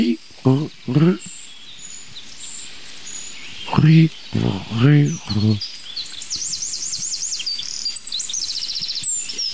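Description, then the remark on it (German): Several short, strained calls give way to a rapid series of thin, high-pitched chirps, like young birds calling insistently and continuously, with a faint hiss behind them. “Also ich sag mal, dieses hohe C, das klingt für mich fast wie Jungvögel.”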